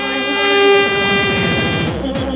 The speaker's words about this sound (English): Where's the foghorn? Where's the fucking foghorn? Where's the foghorn?